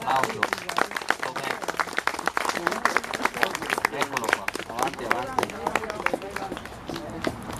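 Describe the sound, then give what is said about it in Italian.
A standing audience applauds to thank the person who designed and built a new capitello (wayside shrine), a dense, even patter of many hands clapping for several seconds, with voices calling out and murmuring beneath the clapping. “Bell'applauso.”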